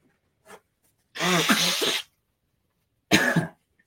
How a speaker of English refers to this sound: Excuse me, guys. I need to blow my nose for a second, of course.